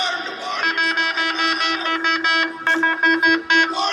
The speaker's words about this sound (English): Here it is, 6 a.m., Florida Gators team's coming in for their weight room and starting their day, man, 6 a.m., and he's got an air horn. And here's how annoying this guy has got to be to these players.